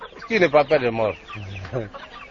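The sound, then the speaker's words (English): Chickens cluck in a quick run of short, harmonic calls, followed by a couple of longer drawn-out squawks, with a faint murmur of background activity. “If it does arrive, he says, it will not be good, because nobody will come to buy any chickens.”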